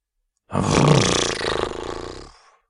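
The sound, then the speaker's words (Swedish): A human voice imitates a horse with one loud, drawn-out, rough and throaty whinny lasting nearly two seconds, wavering slightly before trailing off. It is 'horse language' from the character Vitnos, a russ pony foal from Lojstahed on Gotland. No words are spoken. “Det där förstod du förstås inte. Det är ju hästspråk.”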